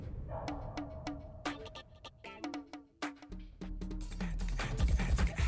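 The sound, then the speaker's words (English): A dog barks repeatedly in sharp, quick bursts, fairly loud, over a busy background that swells and grows denser toward the end; no one speaks. It is the intro of the show Trash Talking with Legends, broadcast from the Vegas Video Network studios near the Las Vegas Strip. “Broadcasting live from the Vegas Video Network studios, just steps from the Las Vegas Strip, it's time to release the junkyard dog.”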